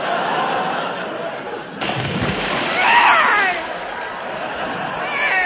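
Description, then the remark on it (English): A person falls into water with a loud, abrupt splash partway through, followed by several seconds of churning, sloshing water. “I'm drowned in the dead in water.”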